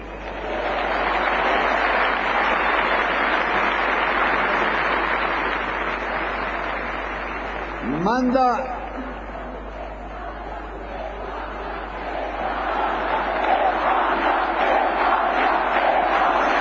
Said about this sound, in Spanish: Gritos de España, España, que interrumpen de nuevo